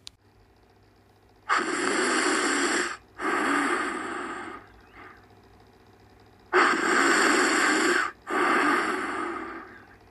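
Loud snoring by a man asleep in bed: two long rasping snores, each a pair of harsh breathy pulls separated by a brief pause, with quiet gaps between them and no talking.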